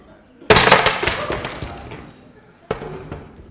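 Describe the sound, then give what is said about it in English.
Pottery smashes against a rod of iron with a loud, sudden crash, then shards scatter and clatter for over a second before a second, smaller crash of breaking pieces follows and fades. “What happens when pottery comes up? Yeah. Should we find out?”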